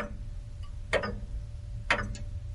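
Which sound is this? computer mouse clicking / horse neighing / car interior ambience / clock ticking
clock ticking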